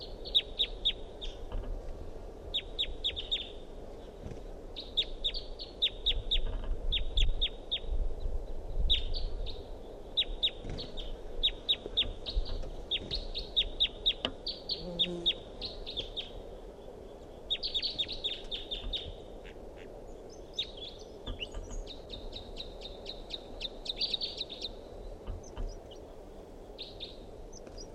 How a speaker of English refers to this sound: Wild bird in song.